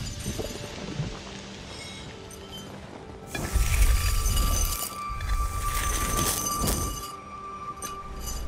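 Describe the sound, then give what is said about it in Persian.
Glass made when fire struck sand gives a burst of bright glassy clinking and tinkling for several seconds, fairly loud, then fades into a low background hum. No one speaks. “ببین آتیشت با شنا چی کار کرد؟ شیشه است؟”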